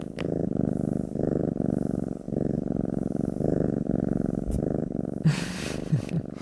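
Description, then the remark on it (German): A male domestic cat purrs steadily, a continuous low rumbling with a regular pulsing rhythm, with a few brief soft rustles near the end. “Ja, und dann haben wir noch das Schnurren der Katze.”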